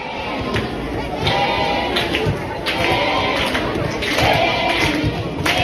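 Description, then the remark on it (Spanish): A crowd of about 600, many of them children, cheers and shrieks in high, excited voices at an open training session of the Spanish women's national team in La Roza, supporting Jenny Hermoso: a steady roar of overlapping shouts that swells in several loud surges over a few seconds. “Por el tono, por el timbre de voz, noto que había mucho niño, mucha niña, viendo el entrenamiento de la selección española femenina, con la presencia de Jenny Hermoso, que ha sido la gran protagonista.”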